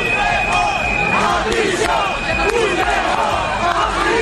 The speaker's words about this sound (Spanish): gritos y con insultos contra el presidente del gobierno, Pedro Sánchez. Traidor, sinvergüenza, gritos también cuando Sánchez abandonaba el palco de autoridades junto a los reyes y la princesa Leonor contra el expresidente catalán Carles Puigdemont.